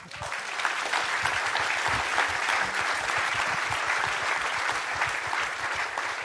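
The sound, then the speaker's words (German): Sustained audience applause marking the fifth anniversary of Auf 1, a dense steady clatter of many hands clapping at constant loudness for several seconds, with no voices standing out. “Das ist auch Ihr Applaus.”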